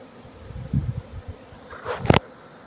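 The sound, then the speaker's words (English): Docile bees pouring in and out buzz in short, wavering bursts, with a sharper, louder whoosh near the end as one darts past. No one speaks. “Yeah, I'm glad it's not wasps and yellow jackets, boy.”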